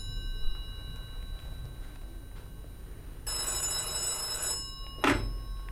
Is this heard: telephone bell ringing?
yes